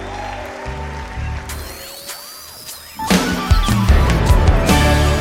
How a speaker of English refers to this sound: Clap your hands this way, come on. Put your hands together.